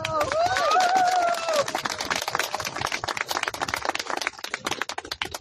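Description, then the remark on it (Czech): An audience applauds with dense, steady clapping for several seconds, welcoming a former Czechoslovak Army officer invited to speak, a brief voice-like tonal sound riding over the start before the clapping thins out slightly toward the end. “Prosím, zatleskejte mu.”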